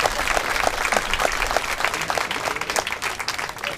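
An audience at a camp applauds steadily, a dense crackle of many hands clapping at an even, moderate loudness for a few seconds without pause.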